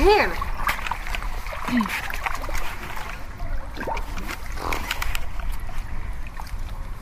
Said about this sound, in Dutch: Oeh, koud, koud, koud. Ik ga even een snoekduik nemen, ja. Zoals dat heet.